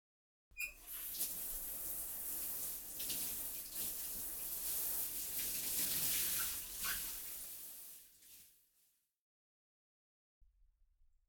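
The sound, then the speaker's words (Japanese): Water runs steadily from a tap or shower for about eight seconds, a bright continuous hiss as soap foam is rinsed off, then fades and cuts out, with a faint brief sound near the end. “では、先に泡を流しますね。”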